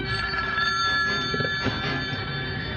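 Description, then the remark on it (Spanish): A telephone resting on a marble side table rings continuously, a bright, steady metallic trill that stays loud for the whole stretch with no pause and no voices. “Calimán avanza hasta la mesilla de mármol, donde descansa el teléfono. Descuelga.”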